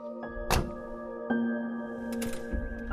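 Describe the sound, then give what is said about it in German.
On Kangaroo Island, a jeep door thunks shut near 0.5 seconds, followed by a second heavier thud, over a steady idling engine hum with a faint rattle or click toward the end. “In seinem Jeep geht es zuerst in Richtung Küste, sagt er, während er euch die Türen aufhält.”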